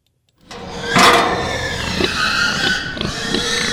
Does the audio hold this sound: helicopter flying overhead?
no